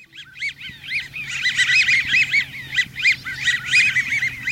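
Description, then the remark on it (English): A flock of American wigeons, trim brown ducks with pale blue bills and big white wing patches, gives continuous squeaky, rubber-duck-like whistles, many overlapping calls, fairly loud, with no voices. “These rubber ducky sounds come from a flock of American widgeons, trim brown ducks with pale blue bills and big white wing patches.”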